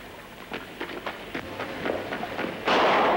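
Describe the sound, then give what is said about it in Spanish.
A loud, sharp gunshot from Calloway, which hits Harry, bursts out near the end, following a stretch of rain-like patter and scattered quick thuds, like running steps, with no one talking. “El disparo de Calloway le alcanza.”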